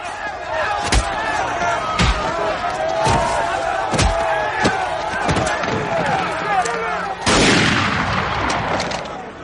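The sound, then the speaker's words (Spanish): A series of sharp, loud warning gunshots cracks out at irregular intervals over a restless crowd, with voices murmuring and shouting underneath and a burst of louder noise near the end. “El próximo disparo no será una advertencia.”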